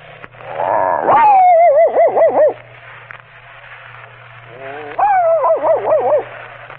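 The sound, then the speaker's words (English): A human voice performing a series of announced imitations imitates a dog barking: two drawn-out, wavering yelps separated by a short pause, fairly loud, with a low steady hum underneath. “The next is a dog barking.”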